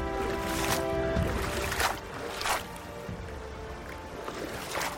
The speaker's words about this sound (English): Get to the river. There's the canoe. Hop on.